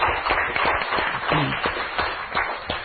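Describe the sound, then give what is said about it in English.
A crowd claps steadily and cheers for the Lord, a dense wash of overlapping hand claps with scattered voices shouting over it, loud and continuous for the whole stretch. “Give the Lord a cheer.”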